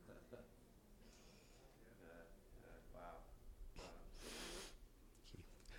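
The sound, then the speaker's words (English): A single loud, sharp sneeze bursts out near the end, standing out over a low murmur of background voices. “Bless you”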